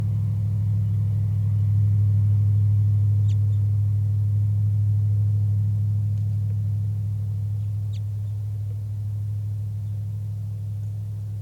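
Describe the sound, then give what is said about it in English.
Two or three very soft, brief high flight calls from a wild bird rise faintly over a steady, loud low rumble like a running vehicle engine. “Very soft flight calls by the wild bird.”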